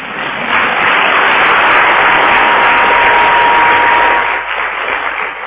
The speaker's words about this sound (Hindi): तो अच्छा किया बाप दादा खुश है और सभी भी खुश है, तभी तो ताली बजाएगा।